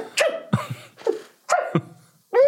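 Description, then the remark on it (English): A voice imitates a run of sneezes, about four or five sharp, breathy bursts in quick succession with short pauses between, fairly loud. “I've been on site all bastard week, and all I could hear is you fucking sneezing.”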